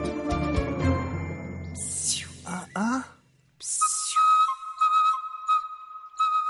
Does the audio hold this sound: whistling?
yes